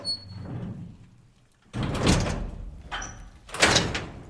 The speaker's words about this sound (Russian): Запирает дверь карцера.